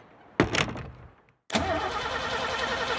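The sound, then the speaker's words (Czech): A car engine is cranked but fails to start: a short sputtering try that dies off, then a second, longer attempt with a steady rattling churn. Fairly loud, with no voices. “Ale ne. Auto nejede.”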